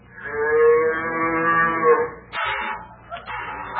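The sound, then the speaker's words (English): A cow being milked lets out a long, loud moo lasting about two seconds, followed by shorter, rougher bovine grunts and lowing, with no one talking. “My lad, you're supposed to milk a cow at the back end.”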